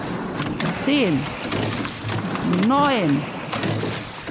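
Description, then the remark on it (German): Oars splash through the water as a rowing boat takes its first five start strokes, with steady rushing water noise and two drawn-out shouted calls rising above it. “Alles klar, die 5 Startschläge, die hören wir gerade und jetzt müssten gleich die schnellen 10 kommen.”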